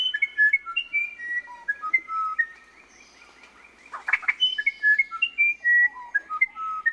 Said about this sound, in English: Among all the wrens, which is the most legendary singer? It's a tough decision, but many would choose South America's musician wren.